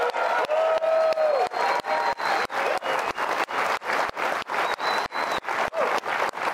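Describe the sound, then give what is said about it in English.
A large, full-house live studio audience in a TV studio applauds and cheers loudly and continuously, the clapping falling into a steady rhythmic pulse, with occasional whistles rising above the noise. “We appreciate, as always, our live studio audience, and what a full house crowd we have tonight here in Studio C.”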